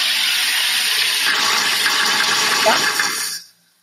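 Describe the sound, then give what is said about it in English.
A soda maker carbonating water as its button is pressed: a loud, steady rush of hissing gas bubbling through liquid for about three and a half seconds, then stopping abruptly. “Press a couple times until you hear like a puffing sound.”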